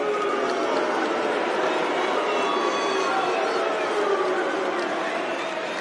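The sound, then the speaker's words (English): A big crowd at a night tennis match chanting "Siu," a soccer chant, a loud, sustained wash of many blended voices that holds steady for the whole few seconds without a break. “I think they're saying Sue, which is a soccer thing, a football thing.”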